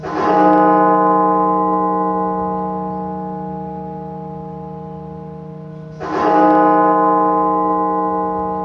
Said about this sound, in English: A bell at the National Cathedral tolls 400 times, once for every 1,000 victims of the pandemic.